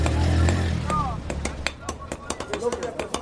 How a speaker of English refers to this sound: beats a molten iron rod into shape. Less than 4 feet tall, he uses a hammer that's almost as big as he is.